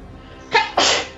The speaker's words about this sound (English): Dramatic sneeze.